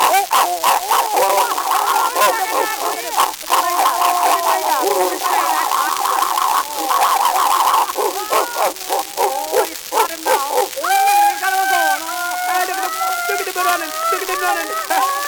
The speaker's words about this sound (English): My dog wins the fight.